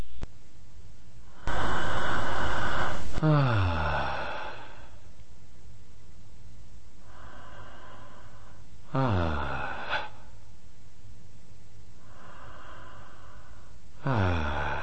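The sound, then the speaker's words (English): Loud breathing, amplified to highlight a person's inhale breath sound, repeats in a slow cycle, with a broad rushing inhale followed by a descending, wheezy tonal exhale, and softer breaths between; no talking. “You could have heard all along the inhale breath sound”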